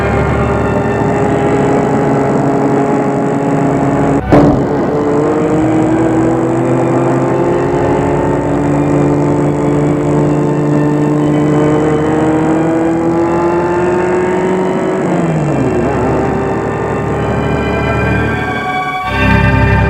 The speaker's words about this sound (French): Elles y vont en voiture. L'hôpital est à 100 km.